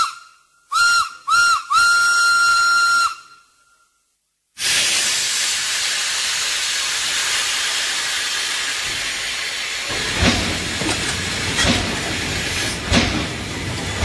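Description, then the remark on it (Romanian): The Orient Express steam train, arrived from Istanbul via Bucharest at platform 1, gives a few short shrill whistle blasts and then a long one. After a brief silence a loud, steady hiss of steam follows, with heavy chuffs as it departs toward Paris via Hamburg. “Trenul Orient Express din direcția Istanbul via București a sosit în stație la linia 1 și a plecat de curând în direcția Paris via Hamburg.”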